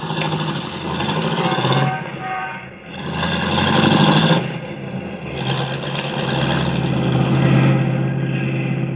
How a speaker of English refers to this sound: Then she gets back into the car, and they drive off.